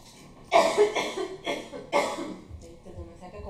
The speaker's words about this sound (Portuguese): Vou tossir de novo. Peraí.